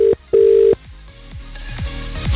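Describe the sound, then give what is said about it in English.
A telephone rings for a radio phone-in call to New Romney, with two loud, steady, mid-pitched tone bursts, the second longer, followed by a series of quieter descending electronic tones. No one speaks. “Phones ring in.”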